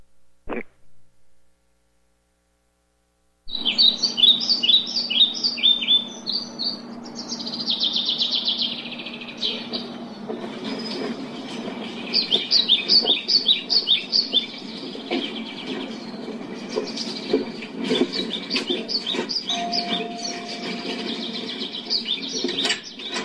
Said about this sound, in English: Just go ahead and play it because there's birds and stuff tweeting. Just imagine yourself on a sunny California day enjoying the beautiful sunlight and the trees are blowing in the wind and the birds are singing